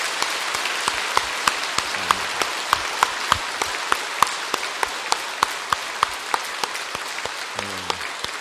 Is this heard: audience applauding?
yes